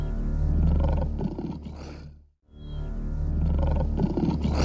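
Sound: lion roaring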